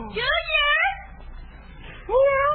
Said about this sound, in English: Meow, meow. Oh, that darn cat.